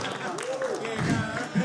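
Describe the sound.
Brief burst of applause, a dense, steady patter of claps at moderate level, mixed with voices talking and calling out over it for under two seconds.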